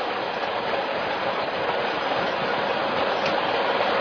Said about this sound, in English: sounds like a freight train.